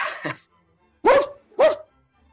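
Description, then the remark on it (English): A dog barks two sharp times in quick succession, fairly loud, after a softer muffled sound at the start, with quiet gaps between; the dog is in the background behind a speaker. “He's got the dog in the background, man.”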